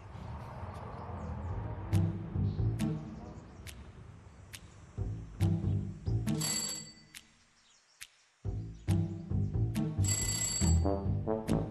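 A doorbell rings in repeated bright, bell-like chimes with sharp attacks, broken by a brief silent pause before the ringing resumes over a low, murmuring background.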